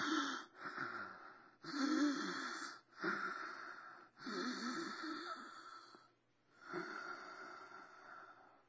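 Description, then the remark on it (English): A voice imitates a man's deep, raspy wheezing breaths, about six long drawn inhales and exhales in a steady rhythm, fairly loud, with short pauses between them and no talking. “And the angels, the great anesthesia of God laid across this first man's mouth, we'll say, and the man started breathing in.”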